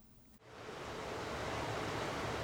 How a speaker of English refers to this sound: There's a creek running through Sue Lavin's backyard, about 20 feet away from the house.